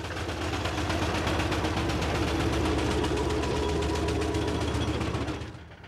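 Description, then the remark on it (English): A steam engine chuffs in a fast, steady rhythm of heavy pulses over a deep mechanical rumble, loud throughout, then dying away abruptly near the end. “I don't know, there's something about a steam engine that gives you a grand feeling of power, an important sort of thing, because...”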